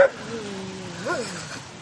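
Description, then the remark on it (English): A dog on a camping trip in the woods of a national forest lets out a long, whining bark, its pitch sliding gently downward, then briefly swooping up and back down before trailing off. Moderately loud, with no one talking. “Camp with a dog, they said. It'll be fun.”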